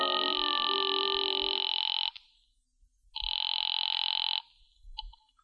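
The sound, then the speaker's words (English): A telephone rings on the line during a call from a phone booth to the Cafe Tambourine, in two long electronic bursts separated by a brief pause, clear and fairly loud, with a short trailing chirp at the end and no voices. “I waited around the lobby for a while, then stepped into a phone booth and called the tambourine.”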